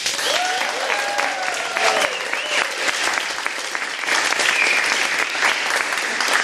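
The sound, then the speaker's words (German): Sustained applause from a live audience of at least 30 invited guests at a live recording, dense clapping that stays fairly loud and even for about six seconds, with a few whoops or whistles rising over it early on. “Ich weiß nicht, ob man euch hört, aber macht mal ganz kurz Applaus.”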